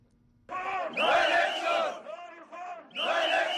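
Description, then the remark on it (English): A crowd of protesters shouts and chants in loud, rhythmic bursts outside Kenya's Independent Electoral and Boundaries Commission in Nairobi, demanding the commission members resign. Many voices rise together in surges with brief dips between them, an agitated protest. “For the third Monday in a month, protesters gathered outside Kenya's Independent Electoral and Boundaries Commission in Nairobi to demand the commission members resign.”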